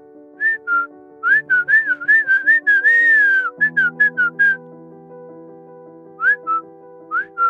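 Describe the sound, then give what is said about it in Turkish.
A parrot whistles a lively run of short, rising chirps and trills, clear, pausing briefly before a few more whistles, with soft sustained background music underneath. “bize ıslık çalsana biraz.”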